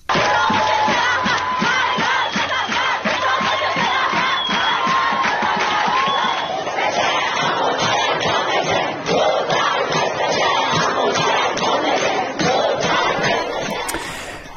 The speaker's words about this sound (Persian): یکی از مهمترین اتفاقات در دانشگاه الزهرا در تهران، یعنی روزی که ابراهیم رئیسی، رئیس جمهوری اسلامی، به آنجا رفت، صورت گرفت. بخشی از اعتراض دانشجویان به رئیس جمهوری اسلامی گوش کنیم.